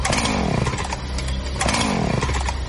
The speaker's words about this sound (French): Regarde dehors. Il y a un monsieur bizarre avec une scie mécanique et un masque.